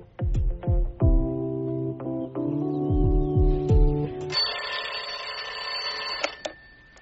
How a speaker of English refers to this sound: I thought you might like this alarm clock better. The lazy dog tells you when to get up.